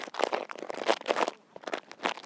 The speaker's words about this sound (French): Les feuilles qui craquent. On a fait des bruits de feuilles mortes, on les a écrasées et froissées.